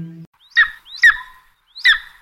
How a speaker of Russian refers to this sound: Тише, слышите? Это беркут, властелин воздушного пространства, король орлов, золотой орел.